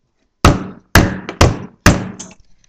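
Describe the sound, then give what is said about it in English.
Four loud, heavy knocks on a house door by a man, evenly spaced about half a second apart, each a sharp thud with a short hollow ring, with no voices. “The man really needed his friend's help, so he knocked again.”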